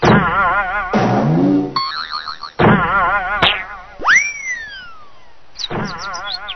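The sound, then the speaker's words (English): Cartoonish boing sound effects bounce in quick succession, with wobbly, springy tones and a sliding whistle-like swoop, loud, as a ball bounces all the way down a hill. “Oh no, the ball bounced all the way down the hill.”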